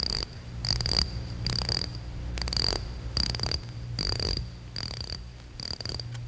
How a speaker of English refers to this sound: Oh, I'd better wind my clock.